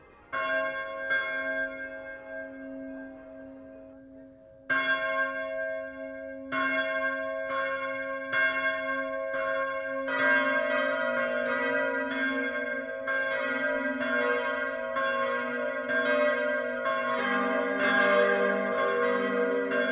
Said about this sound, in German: Auch im östlichsten Niederbayern läuten heute viele Glocken die Weihnacht ein. Wir hören ein insgesamt 6,6 Tonnen schweres Plenum. Alle sechs Glocken hängen im granitverkleideten Turm der katholischen Pfarrkirche St. Konrad im Passauer Stadtteil